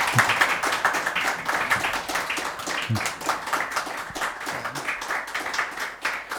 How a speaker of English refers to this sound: If you could give him a huge round of applause.